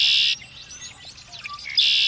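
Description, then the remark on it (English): A red-winged blackbird calls, a loud, harsh buzzy trill bracketing a stretch of thin, sliding whistled notes, with no voices present. “Red-winged blackbird.”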